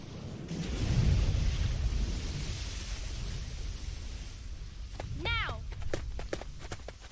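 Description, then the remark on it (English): Rough water churns and rushes beneath a steady roar of wind, loud throughout, with a brief shouted voice breaking through near the end. “Careful! The water is boiling.”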